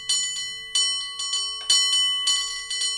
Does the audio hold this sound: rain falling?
no